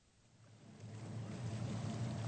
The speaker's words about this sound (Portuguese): Entre mentes, os quatro já fizeram uma boa parte do passeio. O barco aproxima-se do rochedo Lorelei.